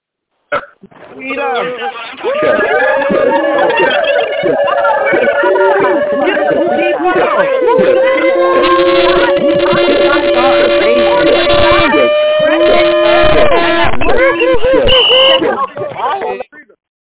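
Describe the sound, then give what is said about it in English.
Many callers on a conference call scream into their phones at once as the lines are unmuted, heard over a narrow, tinny phone line: a dense, loud wall of overlapping yells that holds steady for about fourteen seconds before cutting off. “If you're excited to be here, if you're grateful to be alive, if you're excited to learn something today that's going to empower you, let's go ahead and scream into the phone as I unmute the lines.”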